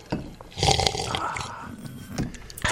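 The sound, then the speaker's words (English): A noisy, wet slurp of coffee: a loud breathy burst of sucking air and liquid, then a softer gurgling draw that trails off and flares again briefly at the end. No one speaks. “Like, you sound like my German Shepherd drinking out of her bowl.”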